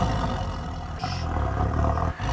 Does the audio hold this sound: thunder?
no